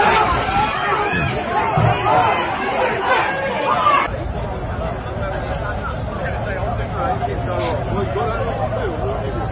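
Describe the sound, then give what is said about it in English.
A crowd at a peaceful gathering against the BBC in London, UK, slowly walking through a park, murmurs and chatters in a dense, continuous babble of many overlapping voices, with a steady low rumble underneath; the hubbub drops slightly in loudness partway through but keeps going. “And for those listening on the radio, this is a crowd that's slowly right now walking in a park in the UK, in London.”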